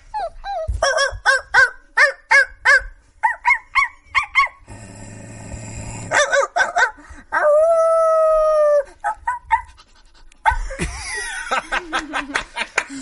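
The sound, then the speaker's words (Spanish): A person imitates a dog, with rapid yipping barks, a rough growl and a long wavering howl, all loud, interrupted by bursts of laughter. “El gruñido me ha sorprendido.”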